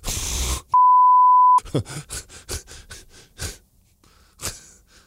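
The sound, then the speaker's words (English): A single loud, steady censor bleep lasting under a second cuts in after a burst of noisy sound, followed by gasping, breathy vocal noises and a few sharp bursts. “Well, I'm glad I beeped that.”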